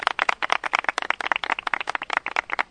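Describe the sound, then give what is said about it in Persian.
A group applauds members of the tourism working group of the Chahardangeh region of Sari, many hands clapping in a dense, rapid, uneven patter that stays at a steady, fairly loud level throughout, with no voices heard. “عزیزان خودتون رو یه تشویق بفرمایید.”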